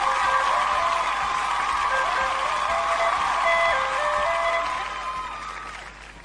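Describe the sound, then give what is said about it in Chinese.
Steady audience applause at a judged competition, a dense crackle of clapping that holds for several seconds and fades toward the end, with a high-pitched melodic tune playing over it. “鼓掌一下， 来，掌声鼓掌。”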